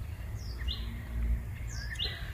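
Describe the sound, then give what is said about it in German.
Faint bird calls: a few short, high chirps and rising whistles scattered over about two seconds, set against a steady low outdoor rumble with no one talking. “Kuckuck auch? Ich bilde mir das jetzt mal ein, ja.”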